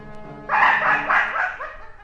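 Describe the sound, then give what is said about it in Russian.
A dog barks during a hunt in a mountain village, in the film "I, Grandmother, Iliko and Illarion", several times in quick succession, loud, with short yelping bursts running together over a faint low background hum. “Этот пес мешает мне охотиться! Замолчи!”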